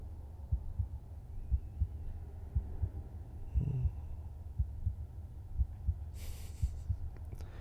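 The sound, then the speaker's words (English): A human heartbeat thumps steadily, muffled low double beats repeating about once a second over a soft hum, with a short rustle near the end. “You can if you want to hear my heartbeat.”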